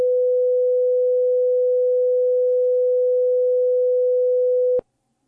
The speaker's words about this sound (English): And to give you an idea of what that sounds like, we're going to play a few examples of what certain tones sound like. This is an example of 500 hertz.